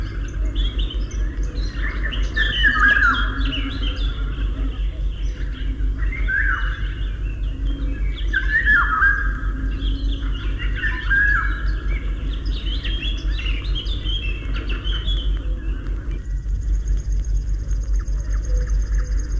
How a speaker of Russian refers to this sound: Вот песня Иволги. Все ее дальние родственники живут в тропиках и очень нарядно окрашены. Наша Иволга не уступает им. Ярко-желтая с черным окраска самца очень красива. Но увидеть Иволгу трудно. Она искусно прячется в верхушках деревьев.